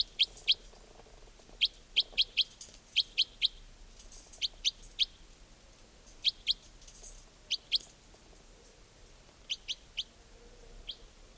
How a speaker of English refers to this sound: And the wild birds are calling. Stop. Wild bird. I think there might just be this one bird here.